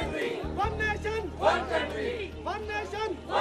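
A crowd of voices chants together in English in rhythmic, repeated bursts at a demonstration of solidarity in Lahore, Pakistan, steady and fairly loud over a low continuous hum, with no single voice standing out.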